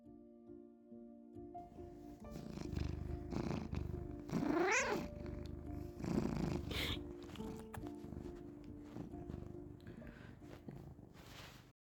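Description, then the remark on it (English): A cat purrs steadily while being petted, a low continuous rumble for several seconds, with a short rising meow breaking in partway through. No one speaks. “"Yeah, right," the sheriff scoffs, petting the cat he doesn't like,”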